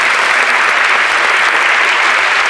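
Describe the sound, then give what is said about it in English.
Steady, dense applause from a sizable audience at a sacrament ceremony, applauding the young candidates, loud and continuous throughout with no breaks or voices standing out. “So I think we can give these young people a good hand of applause for all that they've shown us.”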